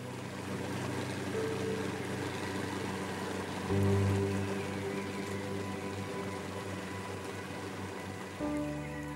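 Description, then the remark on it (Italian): A boat carrying young Burmese resistance fighters moves along the Salween River, which separates Myanmar from Thailand, as fog slowly lifts; a steady motor drone mixed with the continuous rush and splash of water; the engine note shifts slightly a couple of times. No one speaks. “La nebbia si alza lentamente mentre la barca dei giovani combattenti della resistenza birmana scivola sulle acque del fiume Salween che separa il Myanmar, ex Birmania, dalla Thailandia.”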